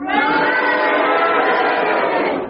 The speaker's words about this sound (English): If you consider that Derek Nimmer's challenge was justified and his slowness was tantamount to hesitation, will you please cheer? If you disagree with the challenge, will you please boo? And will you all do it together now?